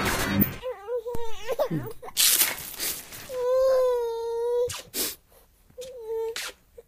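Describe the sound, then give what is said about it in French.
A baby cries in several wailing bursts, first a wavering sob, then a long sustained wail and a shorter cry, loud, with brief breathy gasps between. “Oh, je suis en train de scotcher de la dynamite sur ce bébé que j'ai trouvé dans la rue.”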